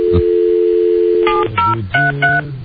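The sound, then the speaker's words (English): A steady telephone dial tone hums alone for over a second, then gives way to a quick run of four or five distinct keypad dialing beeps, each a short paired tone, clear, as someone dials a phone to call a woman. “You got to call her.”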